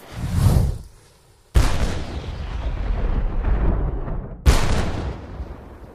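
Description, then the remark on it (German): Heavy cannon blasts boom out during an army attack on a barricade, a deep explosion followed by two more sharp, loud reports at about 1.5 and 4.5 seconds, each leaving a long rumbling, crackling tail of battle noise. “Die Kanone hatte ihr Gebrüll begonnen.”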